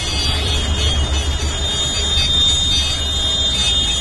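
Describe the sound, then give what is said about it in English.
Vehicle horns honk in a dense, sustained blare over low engine rumble and indistinct crowd noise as protesting Italian farmers enter Milan, the loud mix staying steady throughout without clear breaks between honks. “Lots of honking.”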